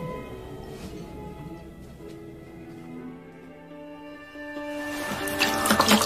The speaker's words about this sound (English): was rinsing his face with cold water